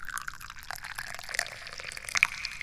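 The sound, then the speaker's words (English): Tea pours steadily into a cup, a gentle splashing trickle that burbles and rises slightly in pitch as it fills, with no talking over it. “Other beautiful things include, but are not limited to, this tea that I'm pouring.”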